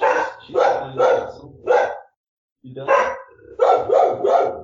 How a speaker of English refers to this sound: And the dog goes crazy.